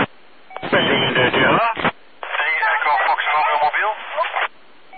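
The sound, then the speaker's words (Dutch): A crackly, band-limited amateur radio transmission from a mobile station, with a distorted voice coming through in two bursts separated by a short gap, hissy static filling the background throughout. “er was een mobiel station. Dat kraakt een beetje.”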